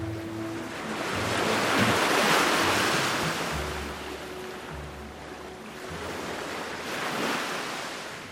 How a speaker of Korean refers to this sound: 겨울바다는 심하게 몸살을 앓는다. 검은 수면은 끊임없이 들썩거리고 파도는 폭우를 집어삼킬 듯 거세게 일렁인다.